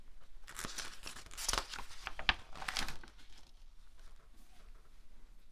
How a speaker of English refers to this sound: Turning the page.